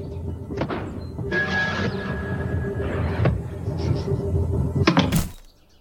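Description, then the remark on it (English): A toaster falling from the sky lands in a backyard with a sharp, loud thud that cuts off into silence, preceded by a steady whistling tone and several duller knocks and bumps amid a busy clattering background. “Please, don't tell me I just saw and heard a toaster come down from the sky and land in our backyard.”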